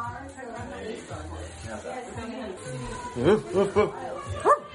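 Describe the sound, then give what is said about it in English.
Three short, sharp barks from a big dog come near the end, spaced a moment apart, over a steady murmur of people chatting at a child's first birthday party. “Give us a bark.”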